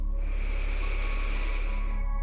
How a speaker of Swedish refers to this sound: Och vi andas in igen.